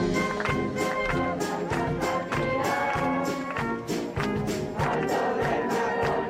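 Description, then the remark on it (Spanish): The music band of the Municipal Police of Madrid plays a loud, full brass marching tune, with steady drum beats driving a march rhythm under sustained horn chords, continuous throughout. “Suena la banda de música de la Policía Municipal de Madrid, que se va a unir mañana viernes al aplauso solidario que tendrá lugar en la puerta principal del hospital 12 de octubre a las 8 de la tarde.”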